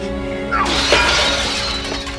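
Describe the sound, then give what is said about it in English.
A sudden, loud crash of a glass table shattered by a judo chop, followed by a sustained spray of tinkling, scattering shards that rings on for a couple of seconds. “there's a real sick judo chop right through that glass.”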